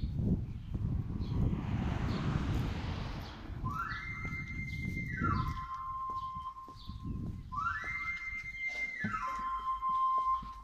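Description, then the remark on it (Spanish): A knife sharpener's whistle, announcing the sharpener's arrival at the door of a home to sharpen knives, scissors and lawn mower blades, plays two quick runs, each climbing up a scale of high, piping notes and sliding back down, over a steady low rumble of wind and street noise. “Ha llegado el afilador a su domicilio, a la puerta de su casa.”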